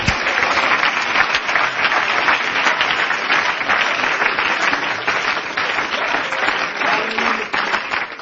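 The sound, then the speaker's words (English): A church audience claps in praise, many hands making a dense, loud patter of applause that holds even throughout without any voices standing out. “Let's clap our hands and give him some praise.”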